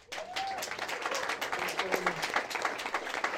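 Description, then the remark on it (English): A small group applauds a young woman who just turned 19 and is starting her second year of college, clapping steadily for a few seconds, a dense patter of many hands with no pauses, and a faint voice or two murmuring underneath. “I think we should applaud her.”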